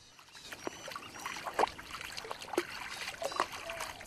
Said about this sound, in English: Chinzi, on the other hand, would rather stay on dry land, and she wants to be sure her mother's coming along. As the mother joins her, Chinzi walks through the water, hissing as she goes.